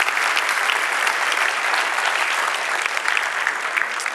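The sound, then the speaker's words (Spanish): An audience at Iglesia La Roca claps for the Lord, a dense wash of many hands at an even loudness for about four seconds, with no voices standing out. “Si Dios habló, de un aplauso al Señor, que él se lo merece.”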